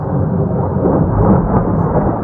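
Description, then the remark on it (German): A huge explosion at night in Damascus, Syria: a deep, heavy rumble rolls on steadily for about two seconds, loud and dense in the low end, with no voices over it. “Plötzlich ist eine gewaltige Explosion zu hören.”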